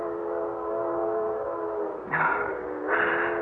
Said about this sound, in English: Oh, that train whistle. It's been driving me bats all morning. I must be hearing things. There aren't that many trains a month through Dover Ridge.